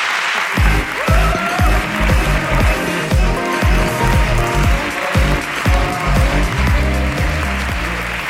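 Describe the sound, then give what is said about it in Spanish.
A crowd bursts into loud, sustained applause that carries on steadily for about eight seconds, with a dense wash of clapping over a rhythmic low thumping underneath. “Aplauso para la ruina de la dieta.”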